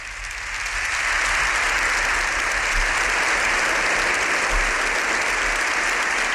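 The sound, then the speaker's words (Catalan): Sustained applause from deputies, senators and guests standing in the Congress hemicycle for the arrival of Pope Leo XIV, a dense wash of clapping that swells within the first second and holds steady and loud throughout, with no voices standing out. “sinó que el Papa i la presidenta del Congrés han pujat dalt de tot de la tribuna de l'hemicicle, on habitualment seu la presidenta, i els diputats, senadors i tots els convidats ja en peu aplaudint l'arribada del Papa Lleó XIV.”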